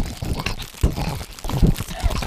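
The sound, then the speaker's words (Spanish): A man crinkles a plastic bag while making wet mouth clicks and smacking sounds with his mouth; crackly crinkling in irregular bursts continues steadily for a couple of seconds with no speech. “Esto es un gilipollas haciendo ruido con la boca y una bolsa de plástico, ¿no?”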